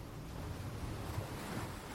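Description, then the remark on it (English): Steady ocean surf washing onto a beach as the tide creeps in, a continuous broad hiss with a low rumble underneath, holding an even level for two seconds with no voices. “Yes, the tide has crept inwards, and the water is seeping up across your stomach.”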